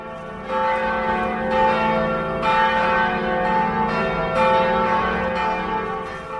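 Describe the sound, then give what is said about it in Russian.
Large bells of the cathedral in central Vilnius, made in Cologne, Germany, peal continuously, with fresh strikes roughly every second layering over a rich, sustained hum of overlapping tones. The ringing is loud, with no voices. “Колокола из Германии, из Кёльна.”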